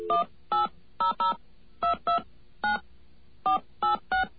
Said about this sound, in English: Now we're going to dial this 800 number.